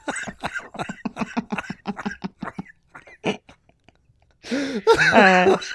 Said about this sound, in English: I'm going to start coughing.